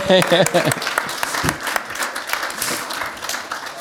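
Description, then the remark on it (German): Audience applause for an artist on stage at a live event, a dense crackle of many hands clapping that stays steady and fairly loud, with a voice briefly calling out over it at the start. “Ein Applaus gut.”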